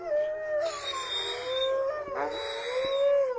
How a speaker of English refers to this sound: As the tour winds down, the volunteers start to howl to make the wolf dogs sing. All the dogs join in, but there's one, Bandit, that can't quite get a howl going.